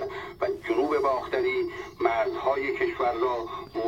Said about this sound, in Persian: گلی صدای رادیو رو زیاد میکنه.